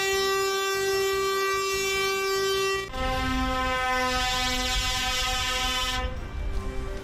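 Loud, sustained truck air horns blare continuously, one steady tone for about three seconds, then a lower-pitched horn takes over with overlapping blasts and rumbling engine noise beneath, during a truckers' protest slow march of 200 trucks from San Fernando de Henares to Ciempozuelos.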